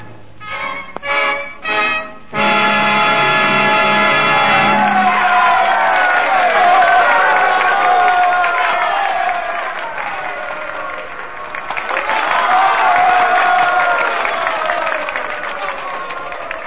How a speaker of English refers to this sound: I hope for applause from them out there, but from you, my fellow singers.